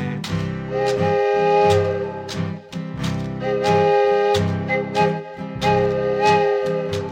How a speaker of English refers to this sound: Just now I think I hear a train coming down the line.